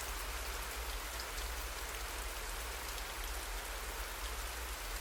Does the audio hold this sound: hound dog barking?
no